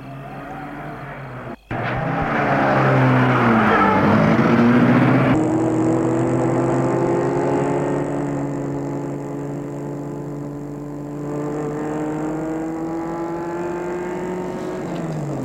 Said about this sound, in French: Ils entrent dans la voiture. Je lui dis, il est temps de rentrer. Et il met la voiture en route.